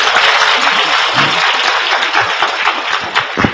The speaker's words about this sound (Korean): 예, 박수 한번 치시죠.